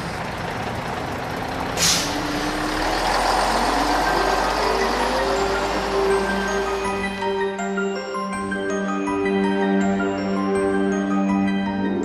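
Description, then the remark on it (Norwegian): A large bus engine rumbles, with a sharp hiss of air brakes early on, then settles into a steady droning whine that continues to the end. No voices are heard. “Nå må jeg ta bussen.”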